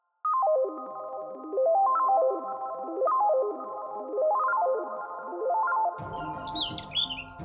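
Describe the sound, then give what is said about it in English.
A steady warbling tone rises and falls in slow, regular sweeps for several seconds, then bright songbird chirps break in near the end, quick and high-pitched. No one speaks. “Have you ever wondered what songbirds are actually saying to each other with all of their chirping?”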